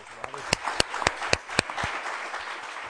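Audience applause: a dense wash of clapping with several sharp, louder individual claps standing out near the start, tapering off slightly toward the end.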